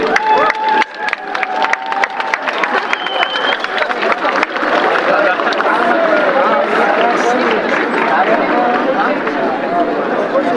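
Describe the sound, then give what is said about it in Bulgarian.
Loud, sustained applause from a large crowd at a first-day-of-school ceremony at the Second English Language High School Thomas Jefferson, welcoming new eighth-grade students. A dense patter of clapping holds steady for about ten seconds, mixed with cheering and scattered voices. “И с усмивка и с много ръкопляскания, нека приветстваме нашите нови съученици.”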